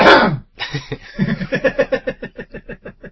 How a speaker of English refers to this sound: Can I clear my throat? Yeah.